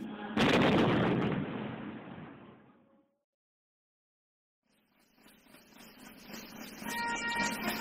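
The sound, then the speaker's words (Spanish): A loud ceremonial cannon shot, part of a 21-gun salute at the opening of the 1968 Olympic Games in Mexico, booms and rolls away over a few seconds. After a brief silence, a rough, steady wash of noise builds toward the end. “¿Cómo celebrar los 21 cañonazos en la inauguración de las Olimpiadas”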